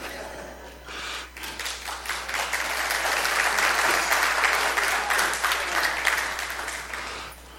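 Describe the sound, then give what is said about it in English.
An audience breaks into sustained applause, many hands clapping at once in a dense, steady wash that swells and then gradually tapers off, filling the room for several seconds. “Clap, that's okay.”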